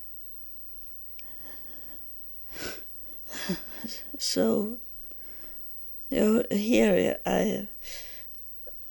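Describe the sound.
Audible breaths drawn in and let out, a couple of short breathy rushes, mixed in with a person speaking in halting bursts.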